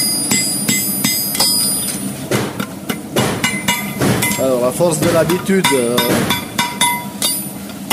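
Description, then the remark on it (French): Repeated metallic hammer blows ring out on a horseshoe heated to about 800 degrees over an anvil, shaping it to the form of the horse's hoof, sharp bright clangs in an uneven rhythm, while a man speaks over the strikes. “Il est environ à 800 degrés là. Et puis là, je vais faire la forme du pied du cheval.”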